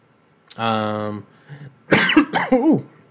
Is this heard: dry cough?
yes